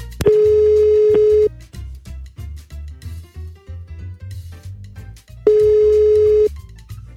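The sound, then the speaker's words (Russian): A telephone ringback tone, after dialing a hairdresser's phone number, sounds twice, each a steady one-second hum separated by a long pause, with a couple of faint clicks at the start and soft background music underneath. “Итак, набираем номер телефона”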